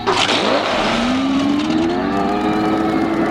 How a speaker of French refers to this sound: Vite, fuyons sur ce jet ski abandonné par l'ennemi.